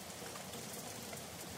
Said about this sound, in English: Look at the tin soldier. He is in the rain.